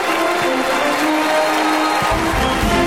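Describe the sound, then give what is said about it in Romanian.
A crowd breaks into a loud, sustained ovation: dense, steady clapping blending into a continuous roar of noise, with a slightly heavier, lower rumble joining near the end. “Ovație, aplauze.”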